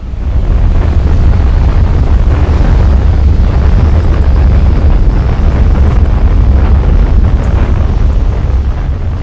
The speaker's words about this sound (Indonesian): Begitupun angin tornado yang sangat dahsyat sehingga membinasakan kaum 'Ad.